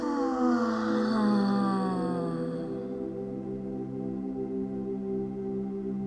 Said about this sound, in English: filling up the chest through to the crown, and exhale, give it a big sigh out the mouth. Just like that, inhaling the belly, back and ribs, the chest, the crown, letting it go with a yawn.